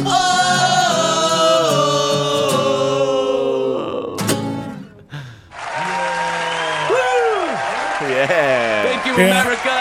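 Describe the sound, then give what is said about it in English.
A loud crowd cheers continuously, voices blending into a roar, with high whoops swooping up and down in pitch and a brief dip in the noise midway before the cheering surges back. “You get the crowd, yeah.”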